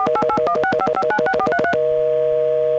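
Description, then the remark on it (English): Touch-tone dialing of a calling card number on a three-way 0-plus call through the TSPS system: a quick, even run of about fifteen short two-pitch beeps, followed by a steady sustained tone. No one speaks. “I put in my calling card number.”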